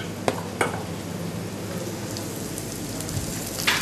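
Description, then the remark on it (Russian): Potato pancakes (draniki) sizzle steadily in a hot frying pan on a stovetop, a continuous hiss of frying oil broken by a few sharp pops and crackles, with no voices. “То есть хоть сковородка должна быть раскалена”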